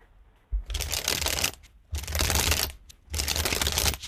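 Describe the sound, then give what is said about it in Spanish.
A deck of playing cards is shuffled three times in a row, each a crisp riffle lasting about a second, separated by short pauses with no talking. “Son, sí, es pasar, pero... Sí. Barajar cartas.”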